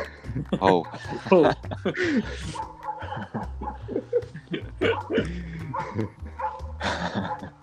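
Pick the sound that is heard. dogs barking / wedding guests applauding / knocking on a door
dogs barking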